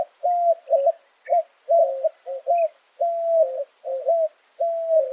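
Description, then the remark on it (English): A white-winged dove coos in a steady series of hooting, slightly rising notes, some clipped and some drawn out, clear with no other sounds around it. “In the desert southwest, white-winged doves time their migration to sync up with the saguaro's reproductive cycle, to the benefit of both species.”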